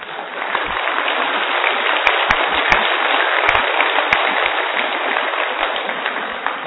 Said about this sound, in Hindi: और आपको पता है तालियां बजाना भी सबसे बेस्ट एक्सरसाइज है, कौन सी?